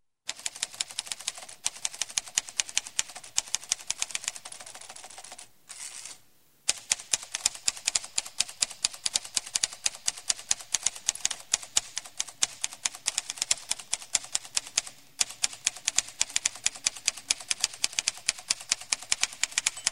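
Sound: typewriter typing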